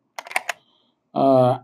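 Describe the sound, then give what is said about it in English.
A quick burst of four or five hard clacks as large dice, probably 30 or 35 millimeter, bought from Chimera Games, rattle around inside a box, followed after a short pause by a brief voiced sound. “Chimera Games has, and you can hear some dice rolling around in here. I think they are probably 30 or 35 millimeter dice.”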